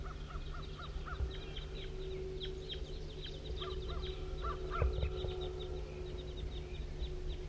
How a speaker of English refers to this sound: Here comes some more wild birds.